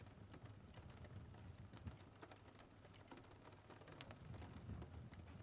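rain falling

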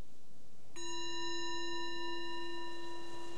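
meditation bell

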